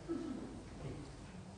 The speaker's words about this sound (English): Daggone birds singing right now.